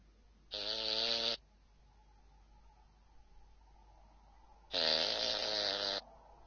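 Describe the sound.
Someone imitates snoring with their voice: two loud, rasping snore-like breaths, each lasting about a second, separated by a few seconds of near silence and a faint steady hum.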